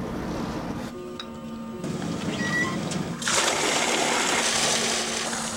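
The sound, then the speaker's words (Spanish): Acid is dumped out, the liquid gushing and splashing steadily, the rushing noise swelling louder about halfway through and continuing as a dense, churning pour until the end. “ya encontramos dónde tirar el ácido.”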